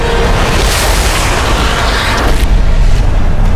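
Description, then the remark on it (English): A loud, sustained thunder crack: a harsh, crackling roar over a heavy low rumble that fills the whole clip, easing slightly in its upper hiss near the end. No voices. “Thunder ripped over him and over both armies, dropping men to the ground on both sides.”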